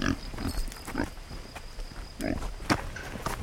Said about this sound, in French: Ah, il y a des petits cochons là.